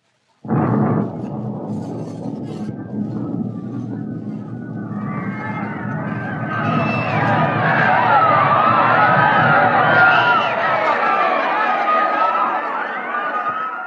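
A sudden booming explosion gives way to a rumbling wash of noise, then a crowd of agitated voices rises and swells into loud, overlapping shouting and clamor that continues to the end.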